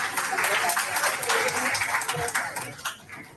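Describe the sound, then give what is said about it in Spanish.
An audience at a literary gathering (tertulia) applauds a group coordinator in a dense, steady wash of clapping for about three seconds, with a few voices mixed in, tapering off slightly at the end. “aquí está un aplauso para ella.”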